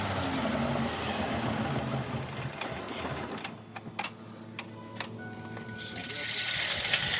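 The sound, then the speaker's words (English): A hydrogen-fueled truck engine runs, after a valve is thrown to send hydrogen into it, with a loud, rough, throbbing roar, then is shut down abruptly partway through, leaving sharp metallic ticks and clicks over a lower lingering hum before noise swells again. “Like, after he throws the valve to send hydrogen into the engine, it runs for a little while, but then he has to shut it down.”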